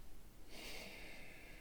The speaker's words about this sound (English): Hand to heart. Breathing in.